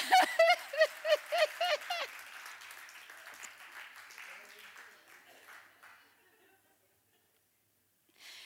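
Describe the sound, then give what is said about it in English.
An audience at a sermon bursts into applause for a man the preacher points out, swelling, then gradually thinning and fading to silence over several seconds, opening with a quick series of rhythmic, high-pitched vocal whoops from the crowd. “You should clap for that man right there, because that man is too...”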